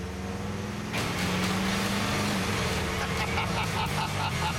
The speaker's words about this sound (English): This 41 Buick has got my name all over it. Now I gotta see how she runs.